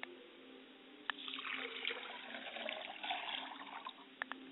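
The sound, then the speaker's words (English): Liquid is poured out to the west as a libation in a steady, splashing stream for several seconds, with a few sharper drips and spatters breaking through. Fairly quiet, with no voices. “I pour libation to the west, and I say, libation.”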